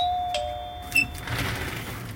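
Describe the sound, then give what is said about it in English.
A doorbell, rung by Christmas carolers, chimes with a sustained electronic tone and a brighter ding near the middle, followed by a soft wash of background noise. No voices. “Okay, ring the bell.”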